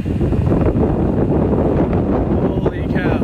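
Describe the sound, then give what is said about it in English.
Tornado winds roar as a tornado touches down in Dallas, a loud, steady, rumbling rush that buffets without a break, with a few brief higher whistling tones rising near the end. “This is a tornado touching down right now.”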